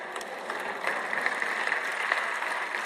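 A woman in the audience claps for about three seconds, a steady, dense patter of sharp hand claps at an even loudness, during a Bible talk. No one speaks over it.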